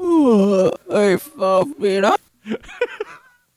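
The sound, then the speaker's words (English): A drawn-out, wavering vocal yawn, fairly loud, followed by a few shorter moaning bursts in a loose rhythm that trail off into quieter murmurs. “You got a yawn going on there?”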